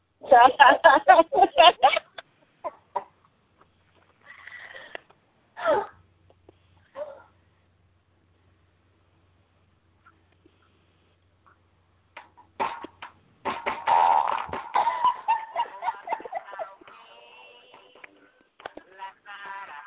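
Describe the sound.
A novelty fart song plays through a small, tinny speaker, with bursts of sung vocals separated by quiet gaps and a faint low hum underneath.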